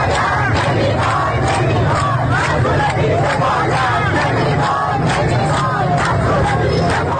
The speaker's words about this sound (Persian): آب و زندگی حق مسلمه با صدای گروهی از مردم در شهر سبزوار در شمال شرق ایران که در اعتراض به قطع مکرر برق و آب مقابل فرمانداری این شهر تجمعی اعتراضی برگزار کردند.